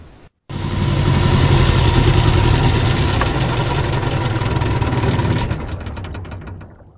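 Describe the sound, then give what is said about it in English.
A boat engine idles with a steady, loud, rumbling drone as the boat slows and the crew tie its stern rope to a mooring buoy, then shuts off and winds down to quiet over the last couple of seconds. No one speaks. “Soon the boat slows. The crew tie the boat's stern rope to a mooring buoy and the engine dies.”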